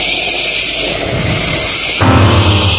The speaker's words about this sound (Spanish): Truenos.